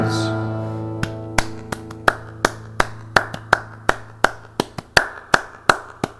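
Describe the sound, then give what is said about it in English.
Hands clap in a steady run of sharp, crisp slaps over sustained musical tones, starting about a second in and continuing in a fairly even rhythm to the end. “Clap my hand to the sound of the band.”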